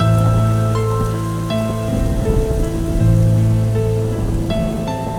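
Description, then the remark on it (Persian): Steady rain falls as a soft, continuous hiss and patter, blended with sustained synth-like chords that shift every second or so. No voices are heard. “بزن بارون، بزن بارون، بارون آروم کن من رو”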